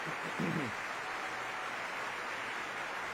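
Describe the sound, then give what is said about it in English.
Steady, dense applause from the cast on stage applauding the orchestra at a curtain call, a continuous wash of many hands clapping, with a brief murmur of a voice near the start. “And now our cast is applauding the orchestra.”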